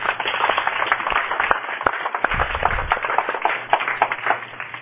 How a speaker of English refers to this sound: My dad's here, and my dad and Father Lindaki, why don't you stand up for a quick moment, and we'll give you a little applause.